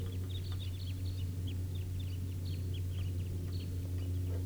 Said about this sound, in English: Sounds like another big flock. About 17 birds. Or maybe 20. And this is the wild flock.